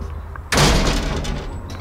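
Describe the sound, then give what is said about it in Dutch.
A door bangs shut with a sudden heavy thud as people walk out of a building through it, and loud, rushing outdoor noise follows at once, like wind, filling the rest of the moment. “We lopen naar buiten door de deur.”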